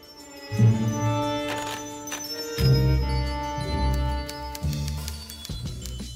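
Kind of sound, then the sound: signal or alarm, school bell ringing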